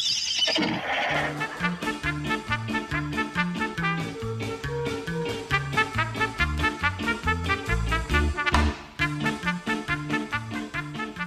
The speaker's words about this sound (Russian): Всадники пустились скакать во всю прыть по дорожкам сада.